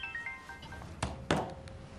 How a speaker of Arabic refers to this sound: موبايلي عم يرن هلأ، بعدين بتصل فيكي.